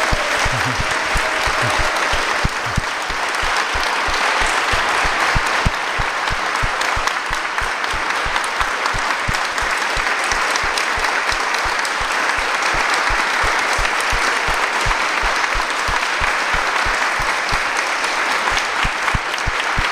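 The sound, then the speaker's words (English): Sustained applause from an audience of devotees for a man asked to stand up, a dense, steady wash of many hands clapping that holds at an even loudness for the whole stretch, with no voices breaking through. “On my request, I know you're a humble soul, but please stand up and receive the applause of all these wonderful devotees.”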